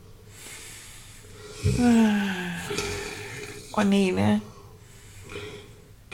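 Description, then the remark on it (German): Two loud, drawn-out snores a couple of seconds apart from a robot, raspy and voiced like imitated snoring, with a brief spoken exclamation and quiet background hiss. “Und was tut der? Der schnarcht.”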